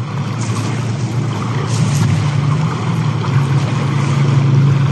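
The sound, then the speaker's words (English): The engine of an unmanned experimental sea surface drone made in Ukraine, a small gray-painted camouflage speedboat with no driver's seat, drones steadily as it motors across open water, its low hum running continuously under a wash of rushing water and wind noise, growing slightly louder toward the end. “The so-called Sea Baby experimental sea surface drones are seen being sailed across an expanse of water that look like small, gray-painted camouflage speedboats.”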